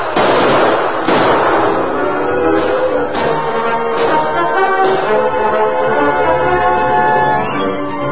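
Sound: gunfire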